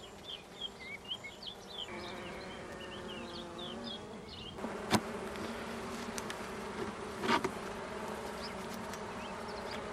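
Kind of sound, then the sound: insect, honeybees buzzing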